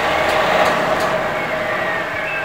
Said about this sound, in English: Milk is pumped to the truck from the tank through a hose with a loud engine grunt. Back to the dairy it goes.